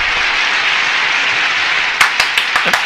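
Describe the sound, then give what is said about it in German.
Steady, dense applause with a hiss-like crowd texture for about two seconds, then a few sharper, louder individual claps punctuate the end. No talking is heard. “Applaus für dich auch.”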